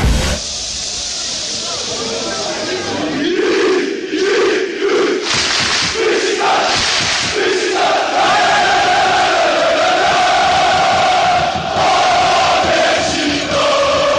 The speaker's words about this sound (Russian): Так звучит стамбульский Водафон Парк. Здесь играет футбольный клуб «Бешикташ». Его болельщики считаются самыми громкими живыми существами на планете. Это подтвердит и Книга рекордов Гиннесса